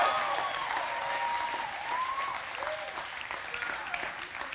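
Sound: audience round of applause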